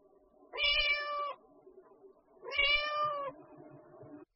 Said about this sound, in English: A cat.